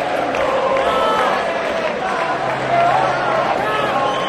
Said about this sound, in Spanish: Gritos de campeones de Europa, campeones de Europa.